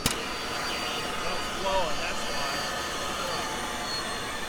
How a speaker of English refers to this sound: The vacuum is blowing instead of sucking. It's a problem because this vacuum connects to the suction devices at about a quarter of the dental stations at this clinic.